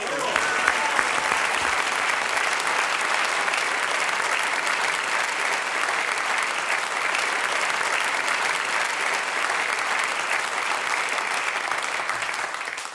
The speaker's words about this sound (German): Großer Applaus